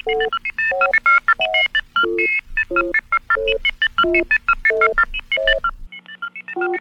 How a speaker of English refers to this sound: And when you hear these beeps, friends, there'll be a lapse of only 65 seconds on the monitor beacon.